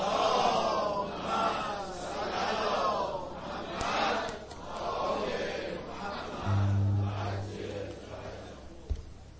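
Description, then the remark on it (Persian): A large audience loudly chants a salawat in unison for the souls of the dead, voices rising and falling in repeated swells, with a low steady hum joining near the end. “برای شادی روح همه اونا، همه اموات، یک صلوات خیلی بلند بفرست.”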